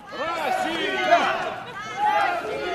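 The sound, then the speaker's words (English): A crowd of pro-Moscow activists outside Simferopol cheers and shouts as Russian troops take over a military base, many overlapping voices rising and falling together in a steady, fairly loud swell with a brief surge near the end. “Outside Simferopol, pro-Moscow activists cheer as Russian troops take over another military base.”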